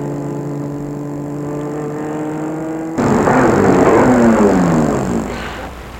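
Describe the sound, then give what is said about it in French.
A car engine hums steadily, then a louder rush of engine and road noise swells as the car slows and pulls in to park beside a small bistro-restaurant in the faubourg Saint-Jacques, with little traffic around, easing off toward the end. Nobody speaks. “Il va se garer à côté.”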